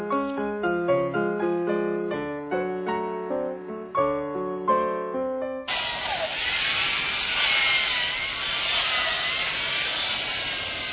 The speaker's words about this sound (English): Bill started with an almost finished ice sculpture and just kind of worked around the base. But that's how they do it, with a chainsaw.